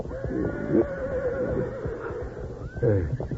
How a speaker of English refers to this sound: Meanwhile, the horses, smelling smoke and seeing the wall of flame creeping toward them, began to fuss and fret.